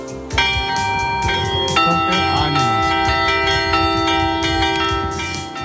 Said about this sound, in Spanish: En la historia de esta noche, las protagonistas, se me acaba de escapar una, son las campanas.